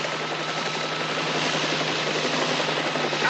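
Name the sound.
helicopter descending to land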